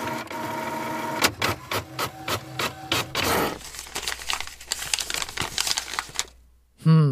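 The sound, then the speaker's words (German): A printer runs through a document: a steady mechanical whir, a quick series of rhythmic clacks, then a rushing, rustling stretch as the paper feeds out, ending with a brief voice. “Ja, ich habe dir das Ding gerade schon ausgedruckt. Schau mal, da hinten müsste am Drucker liegen.”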